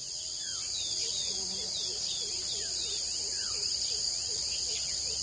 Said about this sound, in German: Wir sind jetzt im Regenwald und so hört sich's an, da wo die Kakaobohnen wachsen.